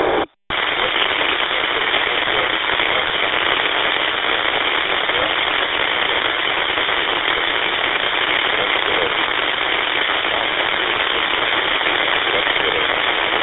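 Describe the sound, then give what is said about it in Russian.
A strong radio repeater carrier roars as steady, dense static after a brief dropout at the start, with only faint, garbled modulation buried in the hiss and nothing intelligible. “Несущий сигнал очень мощный идет с репитера, а это... Ничего не разбираю абсолютно.”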